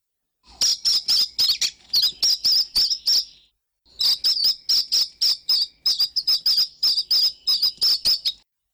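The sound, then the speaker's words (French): Rapid, high-pitched chirping from two newly hatched chicks in a nest in a pear tree, a dense stream of short cheeps in two bursts with a brief pause between, fairly loud, no voices. “Ils piaillaient à tout va, et les parents s'empressaient déjà de faire la navette pour les nourrir.”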